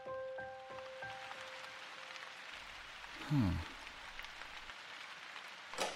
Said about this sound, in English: I sat there looking out onto the falling rain as a small car disappeared into the distance.